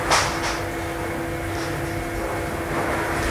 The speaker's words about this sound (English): That's the dishwasher. Yeah. It's interesting because I recorded the sound of the dishwasher on February the 1st and it sounded different on February the 1st. I've just cleaned it out.